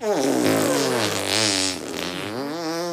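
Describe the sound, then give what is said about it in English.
A voice imitates a hippo's fart during a guessing game, with a long, buzzing, wavering raspberry-like sound lasting about three seconds, loud, pitch sliding up and down. “Like, let's make fart noises and try to figure out whose fart is it.”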